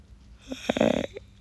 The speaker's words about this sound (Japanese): あくび出ちゃった